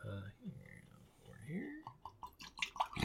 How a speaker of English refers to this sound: I have some glasses for us. Ooh. Just do a light pour to start.